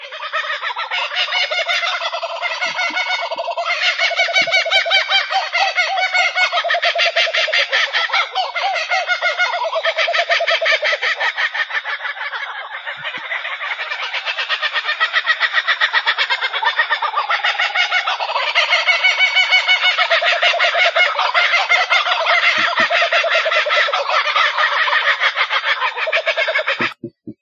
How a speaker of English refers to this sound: I have another sound that's really serious, and this is the kookaburra. Check this out. These are some birds that hang out in and around Australia. The kookaburra, check this out. This is serious.